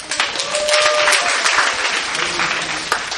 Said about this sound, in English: She's 17 now. Had her birthday recently. Amen. Give her birthday. Give her birthday clap.